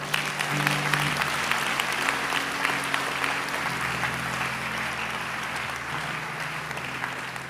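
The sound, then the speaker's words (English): A crowd claps steadily and densely for several seconds, a continuous wash of many hands with no gaps, while a low sustained tone hums underneath throughout. “If you are going to clap, clap.”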